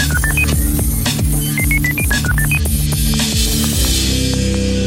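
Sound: telephone number being dialed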